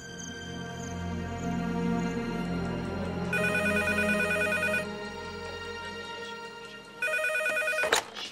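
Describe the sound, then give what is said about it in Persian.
A telephone rings with an incoming call from a prison, in two clear bursts of electronic trilling, fairly loud, over a low steady background hum with no one speaking. “سلام خانم، آقای صادق پیشواز از زندان تلفن داره.”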